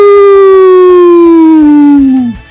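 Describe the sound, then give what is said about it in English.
A single loud, sustained wolf-like howl from a human voice at a full moon, holding a steady tone that slowly slides lower in pitch before dropping off sharply at the end. “Just howling, causing a ruckus. Cause I see a full moon.”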